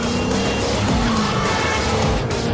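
A car engine roars loudly at high speed, with continuous revving and a brief squeal of tyres, as a car is driven at speed through the Paris streets, overtaking on both sides and racing through red traffic lights.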